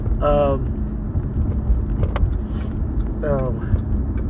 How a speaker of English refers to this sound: Looks like one car is already trying to park. He's about to get in trouble. They know better than that.